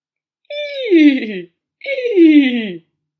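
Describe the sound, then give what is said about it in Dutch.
Answering what sound a horse makes, a person imitates a horse neighing twice. Each is a wavering, falling vocal whinny about a second long, separated by a short pause, with nothing else audible. “Welk geluid maakt een paard?”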